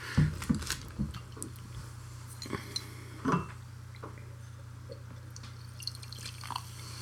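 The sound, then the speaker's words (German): Tasting glasses being rinsed out with water: intermittent splashes and drips with a few light glassy clinks, over a steady low hum, with no one speaking. “Richtig, wir sind hier am Schaffen, wir müssen hier unsere Gläser wieder ausspielen und alles.”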